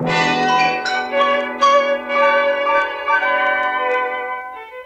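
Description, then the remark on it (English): A series of ringing gong bongs of a time signal in a short chime-like sequence, each strike overlapping the lingering ring of the last, fairly loud with no voices, fading slightly at the end. “We seem to have lost the last note. A bong of the gong is missing.”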